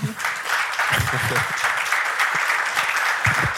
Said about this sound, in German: So, und wir gehen jetzt ins Publikum und bis sich jemand meldet, würde ich mal um einen kleinen Applaus für mein Podium bitten.